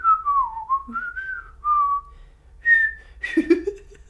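A thin, high, reedy melody from a small pipe, several sliding notes in a short catchy phrase over a low steady hum, ending in a brighter, breathier flourish.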